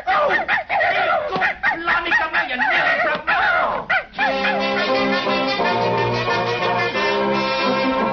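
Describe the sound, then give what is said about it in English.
A dog yaps and barks excitedly in quick, loud bursts for a few seconds, then the barking stops and sustained music takes over. “Get out from under my feet, you nasty dog, you.”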